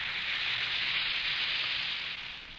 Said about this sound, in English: Let Alka-Seltzer help you. It can, you know. Just drop two tablets in a glass of water like this. Listen for a moment to the famous fizz.